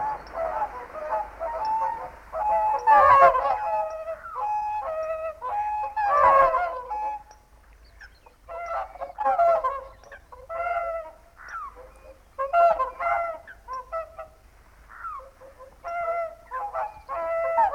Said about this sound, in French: Le chant des cygnes migrateurs